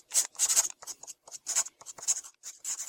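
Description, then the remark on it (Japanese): A pencil scratches across copy paper used for drafts in quick, irregular strokes, about a dozen short bursts of dry, papery scraping, with no one talking; two people with their backs to each other are sketching rough drafts of clothing designs. “私たちは下書き用に使っているコピー用紙を取ると、互いに部屋の反対側へ移動し、互いに背を向けて鉛筆を走らせ始める。”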